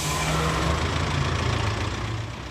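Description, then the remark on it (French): A large bus engine idles steadily with a deep, low rumble and a constant drone, fairly loud, holding an even level with no voices; the bus is ready, its oil changed and its air conditioning checked. “le bus lui il est prêt, la vidange a été faite, l'air conditionné a été contrôlé,”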